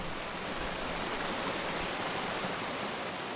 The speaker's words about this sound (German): Von den gegenüberliegenden Felswänden stürzt sich ein Wasserfall in die Tiefe. Dort rauscht die Doveria weiter Richtung Italien.